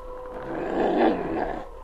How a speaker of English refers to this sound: Sergeant, you hear that? Yes, a wolf howl. Quiet, King. It come from that way, from that hill.